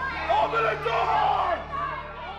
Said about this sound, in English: And that is how an angry and extremely well-armed mob ended up inside the Capitol, racing up the stairs and filling the hallway in front of the Senate chamber where a session was in progress.